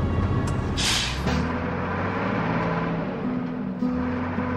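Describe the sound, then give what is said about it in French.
A sharp burst of air-brake hiss from a Moldovan driver's heavy goods truck in Bulgaria, followed by the deep, steady rumble of its diesel engine idling and shifting pitch, with no voices. “Mais mon rêve à moi, c'est ce poids lourd.”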